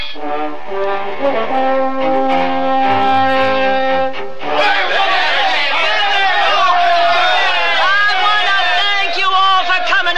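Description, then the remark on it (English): A sustained, steady horn-like blast as a train comes into the station at Denver gives way to a loud, dense welcoming crowd, many voices chattering and calling over one another without pause. “Would you look at that crowd?”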